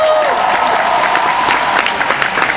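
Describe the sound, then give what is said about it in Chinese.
A crowd claps steadily for all the speakers, a dense wash of overlapping hand claps with no pauses, loud and sustained, with a faint murmur of voices beneath. “让我们再给所有的这些讲员最热烈的掌声。”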